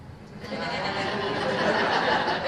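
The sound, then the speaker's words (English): A crowd of people, asked to show their sheep, bleat like sheep all at once, a dense, overlapping chorus of voices mixed with scattered laughter that holds steady and loud for a couple of seconds. “I'm always curious to see what comes out when we do that one. Show me your sheep.”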